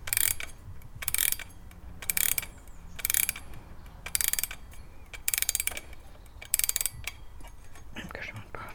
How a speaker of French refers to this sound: C'est un réveil, tu vois. Je sais pas s'il marche. Il monte ici, là.